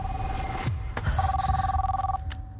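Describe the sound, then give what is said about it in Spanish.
A mobile phone rings with a steady electronic tone, then a brighter two-note trill, over a low background rumble with a few sharp clicks. No one speaks. “¿De quién es este móvil?”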